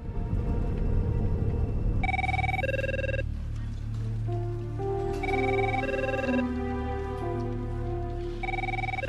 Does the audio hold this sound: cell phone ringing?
yes